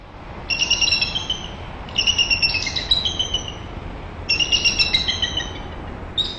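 Eagle calls from eagles at their nest, heard via a nest webcam: three bursts of high, thin, piping chirps, each a quick chattering run of whistled notes, with a fourth starting at the end, over a steady hiss of background noise and no talking.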